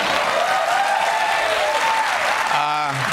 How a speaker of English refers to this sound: I'm the ninth guest host so far and the first white male guest host. Feel free to applaud.